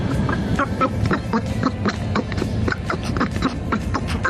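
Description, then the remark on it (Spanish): A nasal, cartoon duck-like quacking voice, like Donald Duck, chatters in quick, uneven bursts, fairly loud, running continuously for a few seconds with no clear words, heard on radio station COPE Cádiz in place of the programme. “Parece el Pato Dona, que te han cambiado, te han pegado el cambiazo, mi hermano.”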